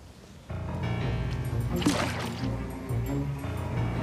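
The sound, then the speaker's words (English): A steady splashing, gurgling rush of water being added to a lily pad begins abruptly and keeps flowing for several seconds, with a burst of brighter spray in the middle and a low tonal hum beneath. “It says to add water?”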